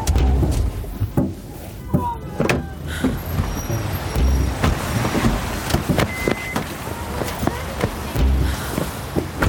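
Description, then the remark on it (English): A car rumbles as it slows and pulls over to a stop, low engine noise steady throughout with scattered clicks and thumps, and faint murmuring in the background. “Okay, stop the car.”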